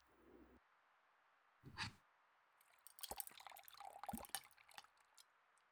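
Wet, squelching whisking sounds of soapy water being whipped into lather to make shaving cream, barbershop-style; a quick burst of liquid churning after a short pause, then rapid clicky frothing strokes, moderately loud.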